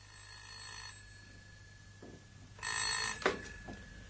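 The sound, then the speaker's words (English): A telephone bell rings in two short bursts, a dense metallic jangle, the second louder, as someone is dozing off in bed, followed by a faint clatter like a receiver being picked up. “I was just dozing off when the telephone rang.”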